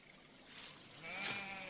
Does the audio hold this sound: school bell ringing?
no